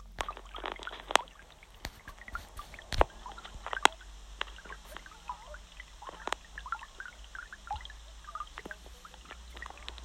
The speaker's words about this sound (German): So, das waren jetzt erstmal ein paar Vögel und wir haben jetzt noch Geräusche von einem Fluss.